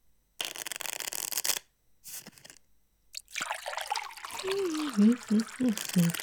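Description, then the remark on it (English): A drink is poured into a glass to top it up, a steady splashing trickle following a brief shuffling rustle. Voices murmur quietly over the end of the pour. “You want to top up? Okay, you deal and I'll pour.”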